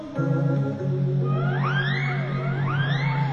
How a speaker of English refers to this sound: Dogs of Juba howling more.